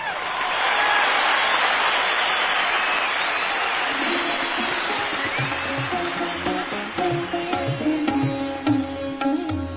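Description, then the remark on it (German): A concert crowd at a benefit concert for Bangladesh in Madison Square Garden, New York, cheers and applauds enthusiastically, a dense wash of clapping and shouts that gradually gives way to plucked, tuning-like string notes rising over the fading applause. “Im Madison Square Garden wurde er begeistert umjubelt, wie im folgenden Konzertmitschnitt zu hören ist.”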